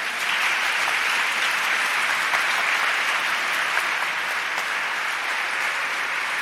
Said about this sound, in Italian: Amici, il merito è del nostro grande maestro Michele, che si merita non uno ma due applausi.